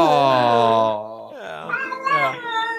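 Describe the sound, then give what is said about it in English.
A cat named AgriKitty gives a long, loud, drawn-out meow, followed by a shorter wavering meow with a speech-like rise and fall. “Hi, AgriKitty.”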